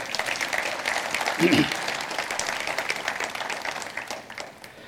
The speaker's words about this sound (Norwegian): Gi dem en applaus.